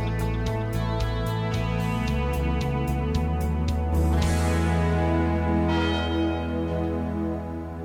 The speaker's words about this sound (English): The University Tower chimes ring in another session of Ask the Professor, the show in which you match wits with University of Detroit Mercy professors in an unrehearsed session of questions and answers.